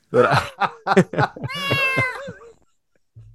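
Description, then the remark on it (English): A few short, choppy bursts of sound give way to a single long, wavering cat meow sound effect, loud, rising and then trailing off into silence. “So I have to get out two sound effects, the bucket of splashing water and the cat meow.”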